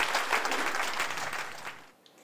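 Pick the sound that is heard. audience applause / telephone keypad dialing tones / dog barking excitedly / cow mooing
audience applause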